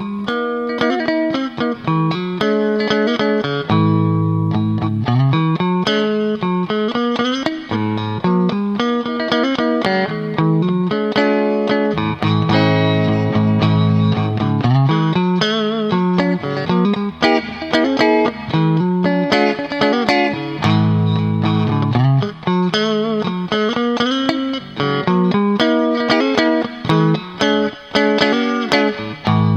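An electric guitar plays a steady run of chords and riffs with both pickups engaged, a full, slightly effected tone, loud throughout with no talking.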